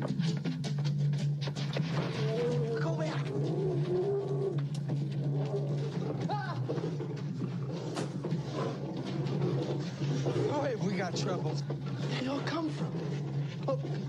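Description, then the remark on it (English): Many lions in a film growl and roar together in a dense, continuous din, layered over a steady low rumble, with snarls and grunts rising and falling throughout. “How do you get this many lions?”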